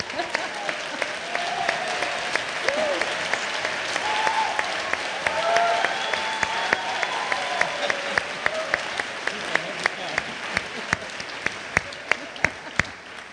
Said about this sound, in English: It got the biggest round of applause for a service as well.